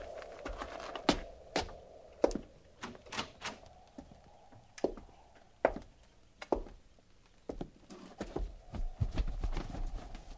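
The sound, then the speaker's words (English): Horses' hooves clip-clop in an uneven, shuffling rhythm, with sharp knocks of varying loudness over a low steady rumble and no voices. “Hobble them horses and get up there.”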